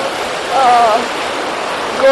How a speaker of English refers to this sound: Here comes a big one. This is the Mediterranean Sea, everybody. Mediterranean Ocean, whatever it's called.